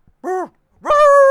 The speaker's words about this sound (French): Et c'est quoi le son que tu n'aimes vraiment pas ? Les chiens la nuit quand j'essaye de dormir.